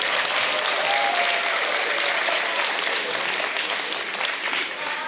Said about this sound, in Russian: Я принимаю аплодисменты.